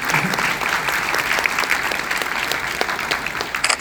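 A crowd applauds steadily after mention of using AI at Google DeepMind to fold 200 million proteins in a year, many hands clapping in a dense, sustained wash of sound that holds at a fairly even loudness throughout, with no voices standing out.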